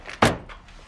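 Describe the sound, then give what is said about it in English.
A single solid thunk of the driver's door of a gray sedan shutting as the driver steps out in a driveway, loud and sharp, then fading into a quiet rustle with faint shuffling afterward. “She steps out of the car.”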